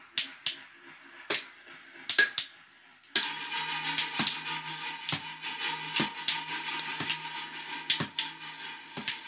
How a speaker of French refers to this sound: L'objet qui produit ce son était... Quelqu'un qui tape dans le creux d'un verre, deux crayons qu'on tape et un crayon qu'on frotte sur une corbeille de bureau en métal.